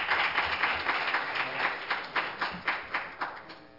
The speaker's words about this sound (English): Give the Lord another hand clap of praise. You may be seated.